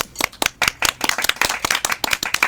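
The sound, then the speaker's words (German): An audience applauds, a steady rush of many hands clapping at once, crisp and fairly loud throughout, with no voices over it. “Dafür bitte nochmal 1912 Applaus.”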